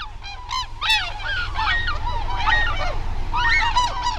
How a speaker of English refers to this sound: As a flight of tundra swans passes overhead on a winter day, their voices swell in a kind of wild music. You might want to call it a swan song.